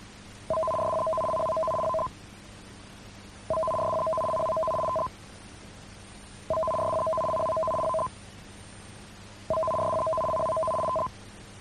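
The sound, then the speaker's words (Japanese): A Japanese emergency warning broadcast system test signal aired on Nippon Broadcasting radio: four evenly spaced bursts of a steady two-tone electronic warble, each about one and a half seconds long, separated by short silences, with no voices. “ただいまのは緊急警報放送システムの試験信号でした。”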